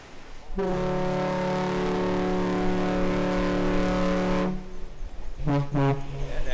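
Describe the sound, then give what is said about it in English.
A car ferry, in service since the 1950s, starts its round trip between Manitowoc and Ludington, Michigan. Its deep ship horn sounds one long, loud blast, then after a short pause two quick toots close together as a salute. Booming, with no talking. “Two toots like that, that's a salute to us.”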